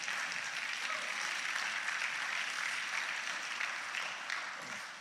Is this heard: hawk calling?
no